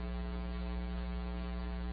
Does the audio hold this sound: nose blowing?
yes